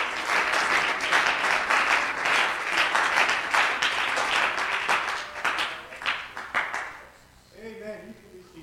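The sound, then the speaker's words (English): A church audience, seated, claps their hands in praise in a sustained, dense burst of applause that gradually thins out. A voice begins speaking as the clapping fades at the end. “You clap your hands in the Lord while you're seated.”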